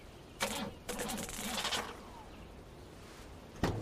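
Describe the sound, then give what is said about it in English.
A hot-wired truck engine, its fuel lines torn out, cranks in two rough, grinding bursts without catching as wires are touched together, followed by a pause and a single sharp clunk near the end. No talking. “Val climbs into the truck and touches the wires together.”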